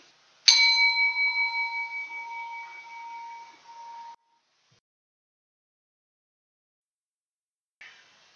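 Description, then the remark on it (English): A single bell is struck once at a Unitarian church worship service and rings out clearly with a slowly fading, shimmering tone for several seconds, then gives way to a brief moment of silence. “I'll now ring the bell and it'll be followed by a brief moment of silence.”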